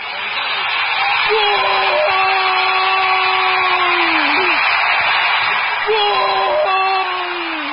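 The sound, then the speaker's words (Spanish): A man at home shouts excitedly in two long, drawn-out yells while a football match is being watched, the first held for several seconds and the second shorter, over a steady wash of loud background noise. “Mi papá está gritando. Seguro que el Durango hizo un gol.”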